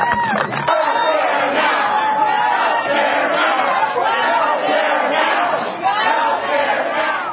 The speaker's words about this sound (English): All right, health care now. That's what the crowd was shouting.